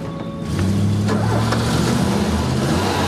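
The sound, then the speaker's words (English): A man gets into his car; the engine turns over and catches, then settles into a steady low rumble that builds slightly as the vehicle pulls away. No voices. “gets into his car. Gov, he's on the move and we're right on him.”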